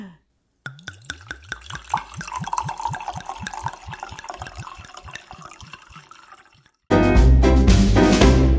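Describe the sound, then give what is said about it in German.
White wine, a Weißburgunder, glugs steadily from a bottle into glasses, a rhythmic gurgle lasting several seconds before it stops and a much louder burst of sound abruptly takes over. “Ah, wir sind einfach, ich schenke uns mal ein.”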